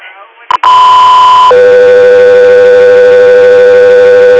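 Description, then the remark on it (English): Radio dispatch alert tones for the unit Alaska 3 Air blare loudly after a brief burst of radio static: a steady high tone for about a second, then a long, lower sustained tone holding to the end. “Alaska 3 Air, standby for tones.”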